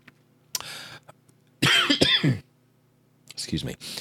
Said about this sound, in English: I could be coughing quietly in the background, but because she's not here, you have to put up with it.